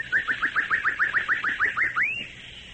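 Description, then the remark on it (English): A whistled imitation of a bird call, used as a signal in a jungle: about a dozen quick, rising chirps in a steady, even rhythm, ending on one longer upward sweep, clear with no talking. “That's a bird you won't see in this jungle.”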